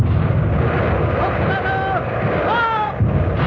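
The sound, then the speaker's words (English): The guns of the ship Artemis roar in a dense, continuous barrage as it opens fire on the Italian flagship, the heavy rumble punctuated by thin whistling tones that rise and bend overhead before another surge of blasts near the end. “Guns ready. Open fire.”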